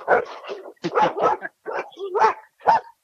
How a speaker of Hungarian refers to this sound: És közben itten kutyák vannak.